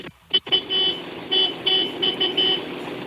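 A tractor horn honks repeatedly, a couple of quick taps followed by several longer, blaring blasts in an uneven rhythm, loud and slightly raspy.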